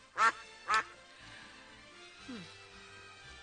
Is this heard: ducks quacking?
yes